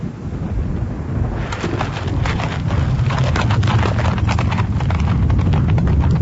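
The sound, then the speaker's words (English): Horse hooves clip-clop steadily on a road as a team of horses is turned toward Munich, starting after a brief pause and continuing in a brisk, even rhythm over a low rumbling background, moderately loud. “As Johann turned his horses toward Munich, I leaned on my stick and looked after him.”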